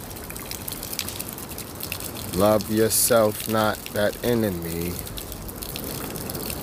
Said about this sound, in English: Hear the sounds. Water. Hear the water hit the earth now.